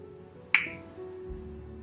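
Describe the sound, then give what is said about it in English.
A single crisp finger snap cracks out sharply over a low, steady background hum, then fades quickly. “Now, I want you to take that energy, and when I snap my fingers, I want you to multiply that energy by 1,000.”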